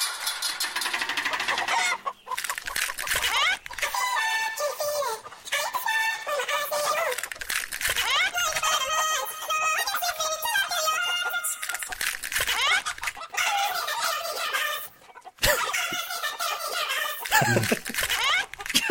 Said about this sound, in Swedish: Många låtar som blir bättre i en kycklingsversion. Vad sjukt det där var då.